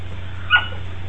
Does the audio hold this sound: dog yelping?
yes